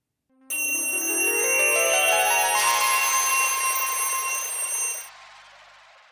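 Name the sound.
ringing bell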